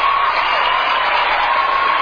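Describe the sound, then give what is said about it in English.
A Hollywood crowd applauding and cheering steadily, a dense wash of clapping with scattered whoops, loud and unbroken for about two seconds. “And there you hear, of course, Hollywood demonstrating its utter lack, its utter bankruptcy on the moral level, cheering and so on and so forth.”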